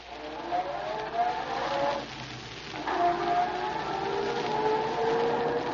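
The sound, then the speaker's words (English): A car engine hums steadily and pulls away, its droning tone climbing in pitch as it gathers speed, with a brief dip partway through. Fairly loud, no voices. “Well, you can start up again.”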